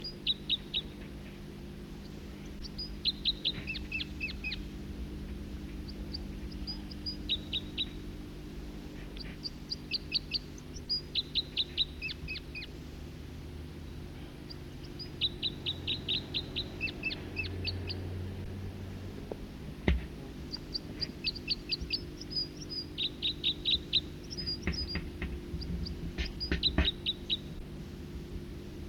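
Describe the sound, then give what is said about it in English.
A second songbird sings in song flight, one of two separate songsters on adjacent perches in different trees, about 50 meters away: repeated bursts of high, rapid notes, each phrase stepping quickly downward, with short pauses between phrases over a steady low humming drone. “Two separate songsters and adjacent perches in different trees.”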